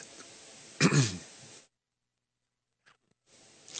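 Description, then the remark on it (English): A single loud cough on the Kevin Smith Show, rough and throaty, bursts out over faint background hiss, followed by a stretch of near silence and a tiny click before the hiss returns. “Pardon me while I cough.”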